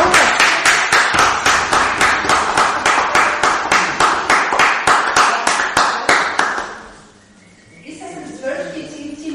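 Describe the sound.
A crowd applauds loudly in a steady, rhythmic clap for about six seconds, then the clapping dies away and a voice starts talking.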